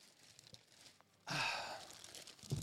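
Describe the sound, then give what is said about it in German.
A large sheet of paper crinkles and rustles in one sustained burst of about a second and a half, fading gradually, with quieter handling noise before and after. “So, ich habe ein großes Stück Papier mitgebracht.”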